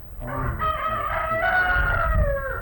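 A rooster crows once in a long, drawn-out cock-a-doodle-doo, fairly loud, with a low rumble of background noise underneath and no talking.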